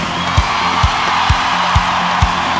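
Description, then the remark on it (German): A large standing audience at a concert at the Olympiahalle in Munich, during a Germany tour, roars and cheers in a dense, steady wash of noise, while five evenly spaced low thumps pulse underneath at a regular rhythm. “Und wo sind meine lieben Stehkarten?”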